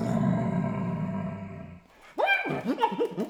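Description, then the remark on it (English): A flute played to mimic an animal's growling roar, first a sustained rough buzzy tone, then a brief pause and a series of sliding, whooping bursts, fairly loud. “And then, of course, you know, kids always love animal sounds.”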